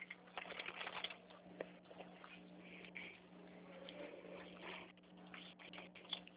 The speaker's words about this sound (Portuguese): Tá, deixa eu anotar aqui, peraí, por favor, deixa eu só pegar a caneta aqui.